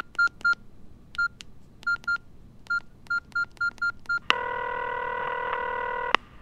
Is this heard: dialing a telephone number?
yes